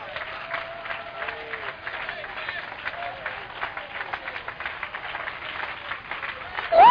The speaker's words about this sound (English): Shout for the victory! Victory's not elusive! Clap your hand for the victory!